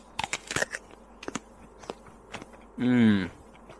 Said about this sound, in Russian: Сейчас я тоже откушу очень большой кусок от яблока. Смотри.